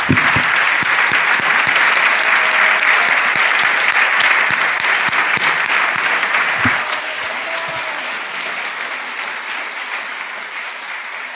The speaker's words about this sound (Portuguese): Aleluia! Podemos aplaudir esse Senhor que é tão maravilhoso?